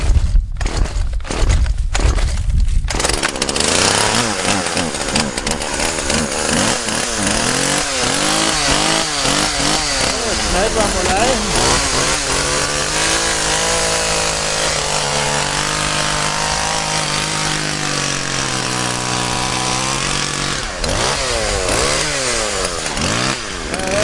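A chainsaw sputters through a few rapid bursts as it starts, then its engine runs continuously, loud and buzzing, with the pitch swooping up and down as it revs.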